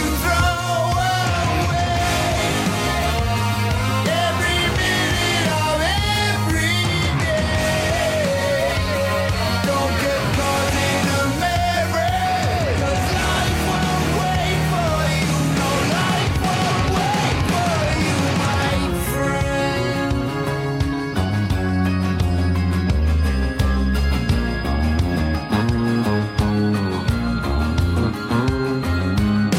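A loud rock song plays continuously, with a wailing lead voice and dense full-band instrumentation. Around two-thirds through it shifts into a brighter, more sustained section with heavy cymbals.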